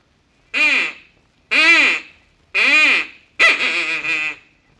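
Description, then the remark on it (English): A mating call blown on an animal call: four short, nasal, honking blasts, evenly spaced and loud, each rising then falling in pitch, the last one longer and wavering. No voices. “It says, to give mating call, puff in short barks like a hurt dog.”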